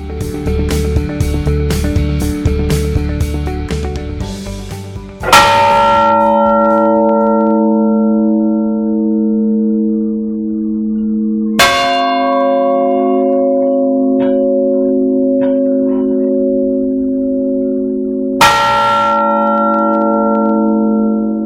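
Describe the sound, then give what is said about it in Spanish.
Church bells of the church of San Martiño in Bueu, Pontevedra, Spain, ring in a busy clangor at first, then settle into slow, heavy tolls, three deep strikes spaced several seconds apart, each ringing on with a long, resonant hum. “Escuchábamos el toque de campanas de la iglesia de San Martiño de Bueu, en Pontevedra.”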